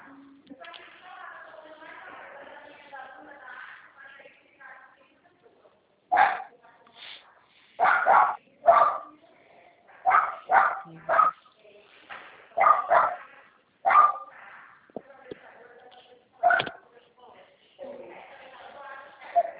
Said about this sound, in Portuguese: tô escutando os cachorrinhos. Eu falei, ah, eu tenho uma pastor de um shih tzu.